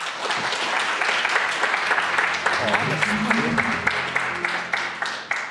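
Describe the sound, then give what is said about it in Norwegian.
An audience gives a small round of applause, steadily for several seconds, a dense patter of many hands clapping at once, with a few voices murmuring faintly underneath midway through. “Ok, en liten applaus”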